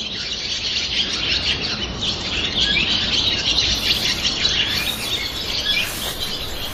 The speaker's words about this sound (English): I think the most striking thing is in the castle gatehouse, very, very early in the morning, before anyone has got there, and it's just inhabited by swallows, and they sing their hearts out.